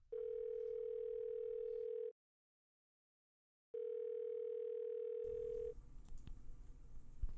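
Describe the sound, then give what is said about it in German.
A steady, loud telephone tone sounds for about two seconds as a man calls a colleague, falls silent, then returns for two more before giving way to a burst of rustling, crackly noise. “Er rief einen Kollegen an.”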